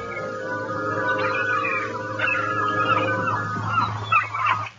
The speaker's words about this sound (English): And then there was a screeching seagull.